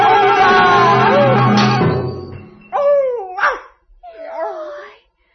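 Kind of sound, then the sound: animal, dog yipping and whimpering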